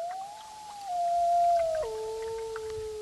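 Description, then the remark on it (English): A gray wolf on a river bank on a hazy morning gives one long, steady howl that holds its pitch and then drops in two stepped slides, clear over a faint hiss of open air, with no voices. “On a hazy blue morning, we round a bend of the river and spot a gray wolf pacing the bank.”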